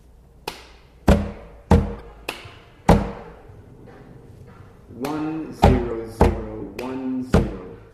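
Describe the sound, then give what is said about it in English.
Sharp, loud hand claps clapping out a binary number rhythm of ones and zeros land in a steady, evenly spaced pattern, about five in a row, then a pause before another run of claps continues with voices sounding beneath them. “The clapping sounds like it could be some good music.”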